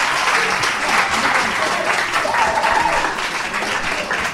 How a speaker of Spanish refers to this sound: Es un aplauso, por favor